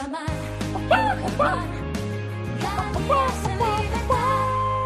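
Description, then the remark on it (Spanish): Free-range hens of the Rujamar egg brand cluck in short, warbling bursts over a bright advertising jingle with steady bass notes, the clucks popping up repeatedly and fairly loud throughout. “Las gallinas de Rujamar. Las mejores gallinas de España.”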